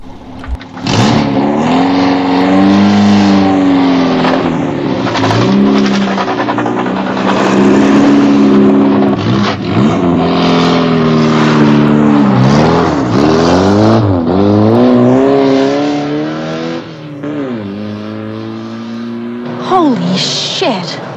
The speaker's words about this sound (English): They speed along a country road.